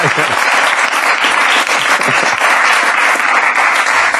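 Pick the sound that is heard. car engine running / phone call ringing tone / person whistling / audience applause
audience applause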